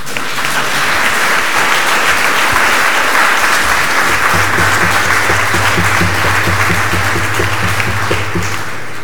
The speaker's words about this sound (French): Bon, ça s'applaudit, hein.